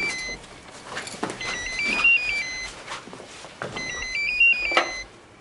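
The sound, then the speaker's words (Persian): A telephone rings twice with a bright, beeping electronic melody, each ring lasting a couple of seconds, over a low background rumble; the caller is the listener's sister. “بله خواهرته، بیا گوشی رو بردار.”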